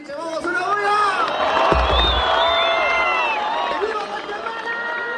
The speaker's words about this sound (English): bound on stage to the cheers of thousands. People are here for the inauguration of Guatemala President Alvaro Colom.